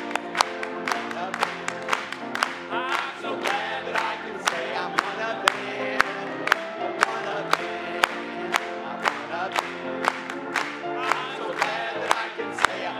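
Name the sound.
audience clapping and cheering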